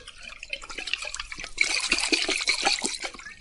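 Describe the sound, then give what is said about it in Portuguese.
Water splashing and sloshing in quick, uneven bursts, starting softly and growing busier and louder halfway through, as a mother duck leads her ducklings into a lake and puts them in the water. No voices. “A primeira coisa que a mãe pata fez foi levá-los, os patinhos, para o lago e pô-los na água.”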